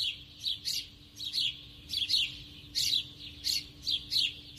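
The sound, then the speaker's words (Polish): A flock of sparrows chirps busily on a street in repeated overlapping bursts, their bright calls echoing off walls with a faint low hum of street noise underneath. “To był bardzo charakterystyczny dźwięk na ulicy, wróble ćwierkające w tym pogłosie ulicznym.”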